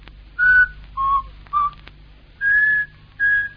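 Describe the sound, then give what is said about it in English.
A man whistles a short tune of five clear notes that rise and fall in pitch, with brief pauses between them. The whistling is fairly loud, with no talking. “he whistles all the time. The same tune. He whistles all the time. Listen.”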